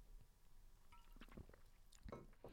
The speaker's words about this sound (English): Let's hear you swallow. Just take a regular sip and then.